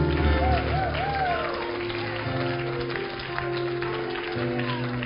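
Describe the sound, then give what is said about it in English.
An audience claps steadily in a dense, continuous patter as praise to the Lord, mixed with voices calling out and sustained musical tones underneath for the whole stretch. “Somebody give the Lord a great big hand clap tonight.”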